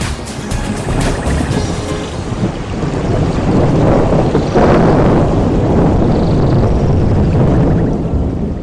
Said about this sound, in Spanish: Ahora escuchamos sonidos de lluvia, de naturaleza, de bosque.